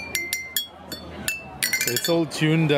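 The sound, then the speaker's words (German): Pieces of old 1940s metal water pipe, lengthened or shortened, struck with the handle of a bicycle pump in Kinshasa, ringing out in bright, pitched clinks, about half a dozen quick irregular hits, with voices joining over the later strikes. “Man verlängert oder verkürzt diese Teile und kann dann mit dem Stiel einer Fahrradpumpe den Sound schlagen.”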